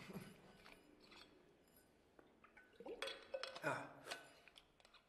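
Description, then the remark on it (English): Quiet handling of a glass: a few light clinks and a brief pour or slosh of water, then soft swallowing and mouth sounds as someone drinks water from the glass, with no talking. “Sorry. I need some water.”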